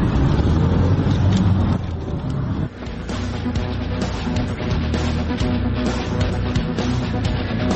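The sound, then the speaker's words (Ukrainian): A taxi drives along a highway toward Zhytomyr, Ukraine, at steady speed, its engine hum and road rumble filling the scene with a constant drone, shifting slightly as it moves on. “Перед нами зупинився водій таксі.”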